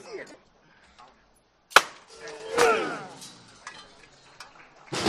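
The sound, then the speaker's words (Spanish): A capataz's sharp, loud metal hammer strikes a wooden procession float of the Hermandad del Carmen in Seville once, ringing out briefly over murmuring voices, with further hard knocks following and one more at the very end. “Pues, como habéis escuchado, compañeros, ha tocado el martillo”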